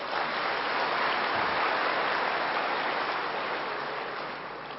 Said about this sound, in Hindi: कितनी खुशी की बात है, ताली तो बजाओ।